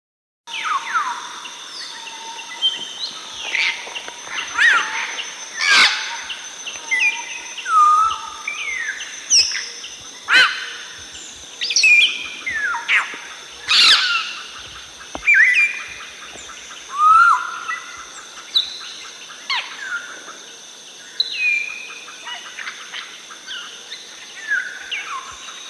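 Loud whistles and harsh squawking calls of an African grey parrot flying right overhead and straight down the Balingo Road at 8 o'clock in the morning, repeated bursts over steady insect drone and other birdsong, with no talking.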